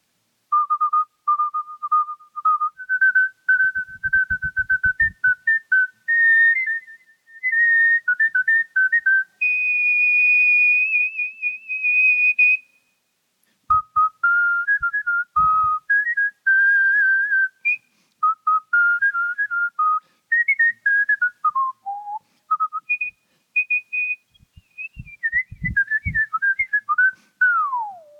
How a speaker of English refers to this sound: have you ever been serenaded by a champion whistler? Well, prepare yourself. Okay, here we go. All right. It is true you have to wet your whistle. Okay. All right, here we go.